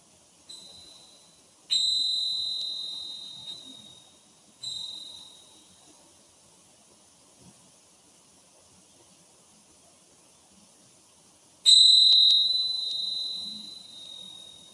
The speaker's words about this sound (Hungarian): Ismételjük meg még egyszer, és légy figyelmes, mert a csengettyű hangja néha majd rövidebb, néha pedig hosszabb ideig szól. Amikor már egyáltalán nem hallod a csengettyű hangját, emeld fel az egyik kezed.